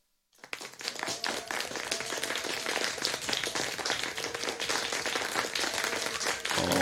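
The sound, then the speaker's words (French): Steady applause from many hands starts abruptly after a brief silence and keeps going at an even, loud level, a dense crackle of overlapping claps with no voices. “Ça a-tu marché, les applaudissements? L'avez-vous entendu?”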